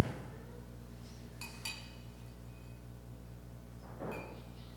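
A spoon lightly clinks against a glass twice in quick succession, quiet, as a little water is spooned from one glass into another, followed later by a soft scrape of handling over a low steady hum.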